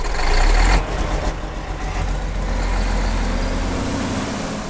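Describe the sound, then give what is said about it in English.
A wood chipper's heavy engine runs loudly and steadily, chipping low-grade balsam, spruce and thorn apple wood in northern New York State, with a deep rumbling drone and a rougher, louder burst at the start before settling into an even roar. No voices. “he'll get paid $80,000 to run the wood through a chipper”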